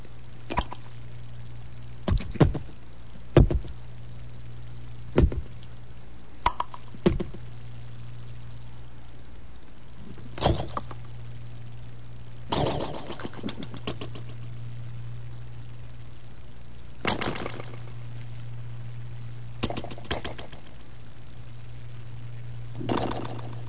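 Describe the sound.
A voice imitates thick cereal coming to a boil, making sporadic sharp pops and bloops, irregular and separated by pauses over a steady low hum, with no words spoken.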